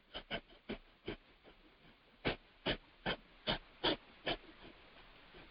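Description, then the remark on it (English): Someone sniffs sharply through the nose about a dozen times in quick succession, demonstrating a breathing exercise called fire breath: short airy hisses in a steady rhythm, the later sniffs a little stronger. No one speaks. “we have another one which is called fire breath, and that's literally sniffing through your nose for several moments.”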